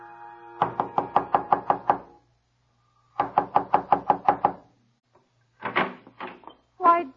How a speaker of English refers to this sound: he squares his shoulders, and before he knocks at the door, he straightens his tie and removes his blue felt hat.